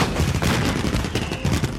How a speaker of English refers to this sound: Fireworks are reflected in the window.